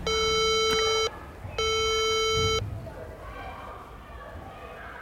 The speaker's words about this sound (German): Also ein sehr schmales Mehrparteienhaus, sogar inklusive kleinem Flaschenzug oben am Dach. Einmal noch tief Luft holen und dann drücke ich auf die Klingel.